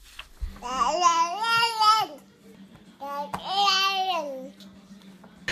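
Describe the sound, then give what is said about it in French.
A baby girl babbles in two drawn-out, sing-song vocal bursts separated by a short pause, fairly loud, with a faint steady hum underneath. “Et si bébé pouvait parler, elle vous dirait sûrement. J'ai faim.”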